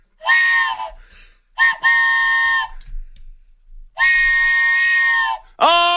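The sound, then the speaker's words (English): A loud train whistle sounds in several long, chord-like blasts with short gaps between them, the third held longest, and another blast starting just as it ends. No one is talking. “All aboard the Beast Train, everybody.”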